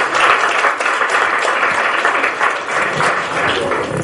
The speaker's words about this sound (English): If there was an award for a question, I would have given to him. So I can't give an award, but I can give you 3 cheers. So clap for him, please.